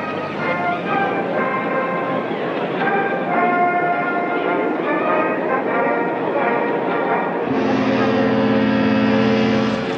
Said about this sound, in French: Voici maintenant, nous sommes à peu près à la dernière partie du lancement. Le bateau vient de parcourir à peu près 300 mètres. Et l'entrée, l'avant du bateau, va maintenant entrer dans l'eau.